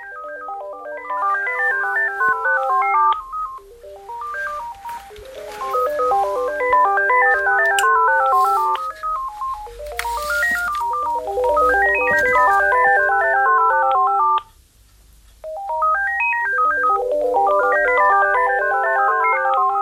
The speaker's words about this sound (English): even though the first cordless phone and the second cordless phone are playing the same tune, they're both doing it at different times